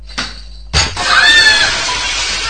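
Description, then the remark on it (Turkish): A brief thump as a kicked ball strikes, followed by a loud crash of window glass shattering, with bright ringing and scattered tinkling that carries on for over a second before fading slightly. “Eyvah, cam kırıldı.”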